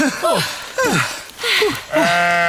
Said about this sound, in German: Die Schafe hier auf dem Deich verlieren manchmal das Gleichgewicht. Dann kullern sie ein Stück runter und bleiben auf dem Rücken liegen.